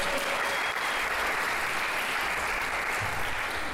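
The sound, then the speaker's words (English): An audience claps steadily throughout, a dense, even wash of applause at a consistent loudness with no voices rising above it. “Can we give these guys a big round of applause?”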